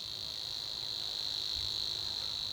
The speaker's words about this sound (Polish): Podsumowując, strumieniówka bzyczy. Świerszczak ćwierka. A brzęczka brzęczy.